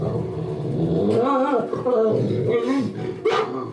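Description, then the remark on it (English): A performer imitates an invisible dog growling during a stage performance about a postman, a run of rough, wavering vocal snarls with rising and falling pitch that break into short yip-like bursts, fairly loud and continuous, with no words. “An invisible, growling mutt that once hounded him comes to love the postman.”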